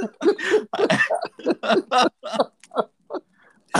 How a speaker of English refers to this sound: Sorry, I'm just clearing my throat.